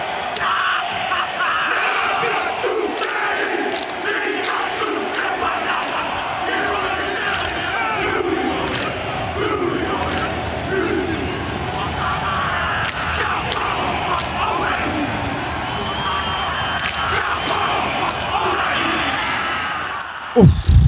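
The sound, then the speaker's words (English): The New Zealand rugby team performs the haka war chant, many deep male voices shouting rhythmic chanted cries in unison over a constant crowd roar, with sharp yells punctuating the loud, sustained performance. “The New Zealand rugby team hacker to commence question time.”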